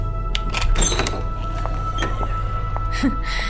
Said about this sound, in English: Open the door